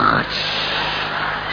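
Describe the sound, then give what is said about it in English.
A voice imitates snoring with a single drawn-out, raspy, breathy snore that holds steady and fairly loud for over a second, with no other sounds around it. “He looks down, and there was Leah snoring.”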